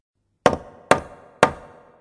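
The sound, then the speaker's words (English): Three firm knocks on the wooden door of Lord Rich's house, evenly spaced about half a second apart, fairly loud, each with a short resonant decay and no voices. “I knocked at the door.”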